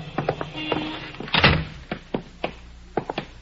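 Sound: door opening and closing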